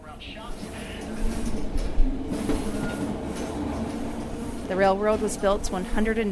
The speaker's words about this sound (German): Dabei geht es über die Grenze von Yukon nach Alaska. Auf der Fahrt wird es schaukeln und holpern. Das ist nichts, worüber Sie sich sorgen müssen. Das gehört zu diesem Zug.